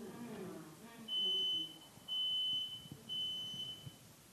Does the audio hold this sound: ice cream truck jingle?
no